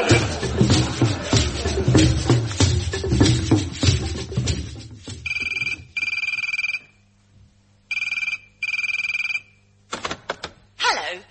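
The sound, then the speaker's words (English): A telephone rings twice in paired bursts, clear, after a stretch of rustling and shuffling noise, then a click and brief tones as the answering machine of Lion Dental Surgery picks up. “I'm afraid we're too busy to come to the phone right now, but if you'd like to leave your name, number, and where it hurts, we'll get back to you.”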